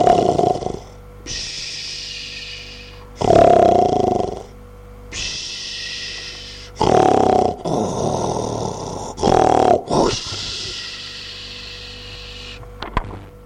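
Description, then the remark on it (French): A voice imitates a wolf snoring: four or five loud, rasping snores, each followed by a long airy, whistling exhale, in a slow steady rhythm. “Et ils regardent, ils font attention, et qu'est-ce qu'ils entendent? Le loup qui ronfle.”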